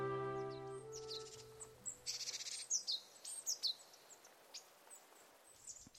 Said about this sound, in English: The yellow bird sat on a tree branch, which seemed to embrace the bird. The bird sang in a beautiful voice.